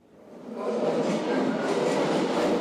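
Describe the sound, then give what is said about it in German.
A train rumbles into the underground Osloer Straße U-Bahn station in Berlin, its roar swelling quickly and then holding steady as the cars rattle past, with broad mechanical noise. “Ein Rollstuhlfahrer dämmert auf dem U-Bahnhof Osloer Straße vor sich hin.”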